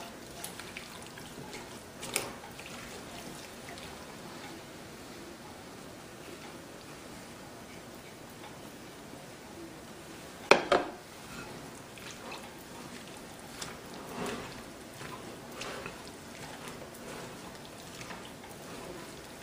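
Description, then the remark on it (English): Batter being stirred with water in a bowl makes a steady, soft wet squelching and swishing, broken by a few sharper knocks of the utensil, one especially loud about halfway through. “let's finish mixing and then just see if we need to add more water in there or not.”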